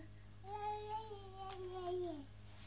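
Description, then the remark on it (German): A baby girl babbles as if telling stories about the mirror, in one continuous, sing-song vocal stretch lasting about two seconds, moderately loud, with a gently rising and falling pitch and a steady low hum in the background. “Jetzt erzählt sie Geschichten vom Spiegel.”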